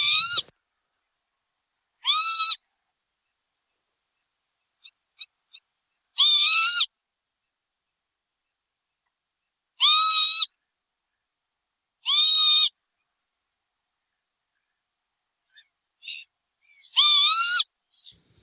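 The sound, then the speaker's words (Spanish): A northern lapwing at Salburua gives a shrill, piercing call six times at uneven intervals, each note loud and harsh, with a few faint ticks in the quiet gaps between. “Este pajarito de sonido estridente, que parece que te llama la atención, ¿verdad?”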